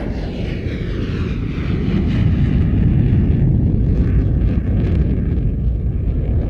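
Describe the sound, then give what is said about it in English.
A loud, steady roar of a jet airplane in flight on a trip from Gatwick Airport to Copenhagen, Denmark, a deep rumbling engine drone that holds constant throughout with no voices. “When we got on the plane, I sat next to Tim, the table tennis coach.”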